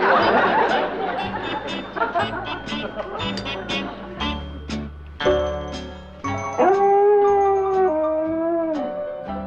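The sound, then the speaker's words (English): A female dog howls outside in long, wavering, pitch-sliding cries that rise clearly in the second half, following a stretch of busy, jumbled noise with what may be voices. “Would you stop it if you were him, with your girlfriend out there howling?”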